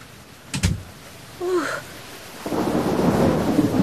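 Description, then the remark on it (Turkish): After a sharp thump and a brief squeaky whine, a loud, steady roar of heavy rain outside sweeps in and continues to the end, dense. “Nece bir yağmur var dışarıda. Çok ıslandım.”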